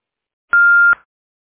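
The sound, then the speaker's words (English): A single steady electronic beep from an answering machine, about half a second long, clear and loud, with a sharp start and stop, standing alone in silence. “Hello, I'm sorry that I missed your call, but if you leave your name and number at the beep, I'll be sure to get back with you as soon as I can.”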